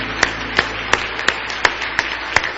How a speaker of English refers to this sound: Oh, give the Lord a big hand clap of praise tonight if you love Him.